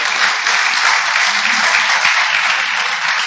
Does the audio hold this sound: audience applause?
yes